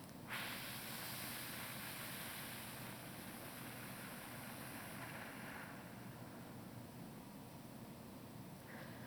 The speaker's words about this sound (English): So first, empty your lungs of all your air. Breathe in through your nose for 4 seconds. Hold it for 7. Make a whooshing sound and blow it out for 8.